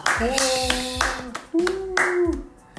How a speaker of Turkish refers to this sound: alkış animasyonu verebilir misin?